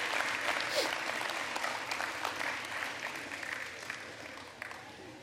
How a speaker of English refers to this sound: So every kid in kids' church, 12 and under, dismiss with a big old round of applause out the back.